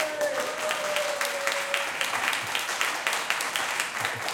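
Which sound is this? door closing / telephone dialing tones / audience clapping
audience clapping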